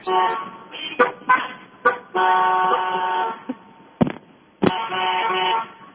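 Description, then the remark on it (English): Car horns honk repeatedly at a traffic light after it turns green, about 23 honks in 30 seconds, a mix of short toots and long sustained blasts overlapping one another, fairly loud, with traffic noise underneath. “I counted a clear 23 honks.”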